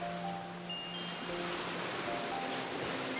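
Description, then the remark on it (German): A steady, even wash of water noise, like waves sloshing, fills the whole stretch at moderate volume with no clear individual splashes and no voices. “Dort schwappen die Wellen über den Rand der Welt.”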